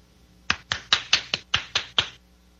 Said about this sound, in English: Yeah, I'm clapping.